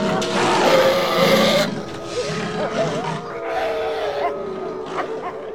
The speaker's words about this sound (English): Wolves appear and circle around her.